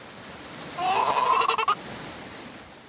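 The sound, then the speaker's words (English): A Juan Fernandez fur seal pup gives a single wavering, bleating lost call, nasal and sheep-like, lasting about a second and breaking off in a few stuttering pulses against quiet background hiss. “That call that sounds a bit like a sheep is its sort of lost call.”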